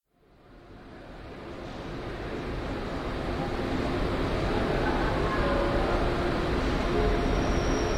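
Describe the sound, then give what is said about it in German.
An Intercity Express train (number 621, from Essen via Cologne, Frankfurt, Würzburg and Nuremberg) rumbles into platform 22 of a station, where it terminates. Its deep, broad roar swells up from quiet over the first seconds and then holds steady and loud, with no voices heard. “Achtung, auf Gleis 22 fährt der Intercity Express 621 aus Essen über Köln, Frankfurt, Würzburg, Nürnberg ein.”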